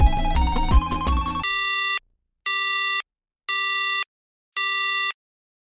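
A short musical jingle gives way to a telephone ringing: four loud, evenly spaced electronic ring bursts with brief silences between them. No voices.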